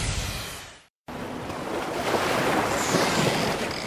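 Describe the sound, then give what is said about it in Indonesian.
Ocean surf roars steadily at the beach, a broad rushing wash of breaking waves with some wind buffeting. The sound fades and cuts out briefly near the start, then returns loud and continuous. “Ada burung-burung, ombak bunyi.”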